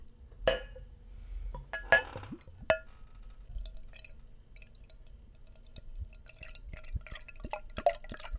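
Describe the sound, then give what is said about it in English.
A few sharp glass clinks, then a freshly opened, light-coloured beer of 10% alcohol by volume and 30 IBUs is poured into a glass with soft gurgling and a fizzy crackle of bubbles, fairly quiet, with no talking. “So let's crack it open and see what we got. Give it a pour.”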